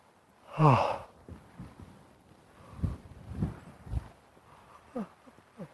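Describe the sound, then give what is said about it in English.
A deep, voiced yawn bursts out loud near the start, then gives way to a few soft low thumps and breathy rustles, with no talking. “Yawn. Gosh, I haven't yawned like that in a long time.”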